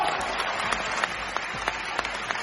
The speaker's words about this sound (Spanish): Es la ovación al artista tras su actuación en Valencia en el estreno de Nabucco.